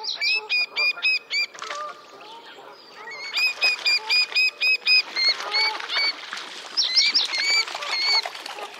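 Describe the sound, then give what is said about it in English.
A pair of little grebes give rapid, high-pitched trilling and whinnying anxiety calls, bursts overlapping in quick repeated series with an agitated, excited quality, no talking; the birds are anxious about a large coot near their nest. “And these calls from a pair anxious about the presence of a large coot close to their nest.”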